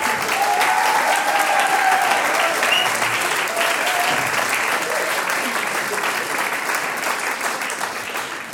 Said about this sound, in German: Dankeschön, dass ihr auch diese Generation vertreten habt, die Uelzer Tanzelmusi. Applaus für euch.